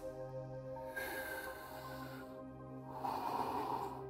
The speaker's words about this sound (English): Hey guys, thanks for doing the breathing with me. It was great.